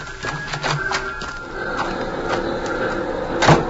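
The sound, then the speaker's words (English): A door opens with a few quick latch clicks and clunks, followed by a steady low rumble and a final sharp thud near the end, fairly loud. “Now open the door and get inside.”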